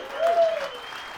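A short burst of audience applause for the musicians at a gig, a dense wash of many hands clapping together, fairly loud and steady before tapering slightly.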